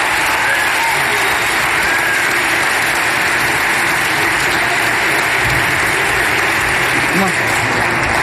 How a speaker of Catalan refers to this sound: Després d'aquest aplaudiment